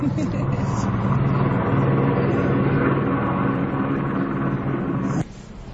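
A helicopter drones steadily, its loud engine and rotor noise forming a thick, low rumbling hum with layered tones, holding level for several seconds before cutting off abruptly near the end.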